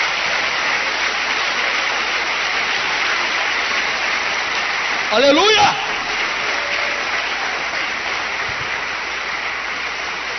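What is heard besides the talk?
audience applauding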